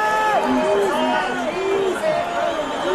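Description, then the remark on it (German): A dense crowd of spectators storming onto the playing field shouts and cheers at once, many overlapping voices rising and falling in a loud, continuous roar with no pause throughout. “Schau mal, Zuschauer stürmen mit Spielfeld.”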